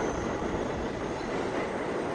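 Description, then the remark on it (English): A busy subway station filled with the loud, steady roar and rumble of a train running through, a continuous wash of mechanical noise with no clear voices. “He searches around the bustling station.”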